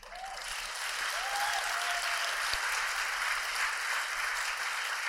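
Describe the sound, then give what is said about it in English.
A crowd breaks into sustained applause after a political line about reforming the United States Senate, steady and fairly loud, with dense clapping filling the whole stretch and a few faint whistles rising above it near the start. “There's nothing wrong with a well-turned political applause line, let me say.”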